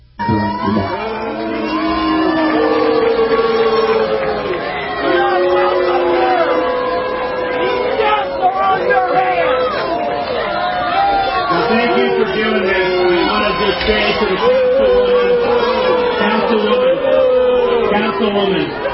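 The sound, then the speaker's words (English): A large crowd at a vigil boos Ron DeSantis, who showed up uninvited, loudly and continuously, many voices overlapping in drawn-out, wavering tones with scattered shouts, holding steady for the whole stretch without letting up. “Later, DeSantis showed up uninvited at a vigil, and he was booed. It sounded like this.”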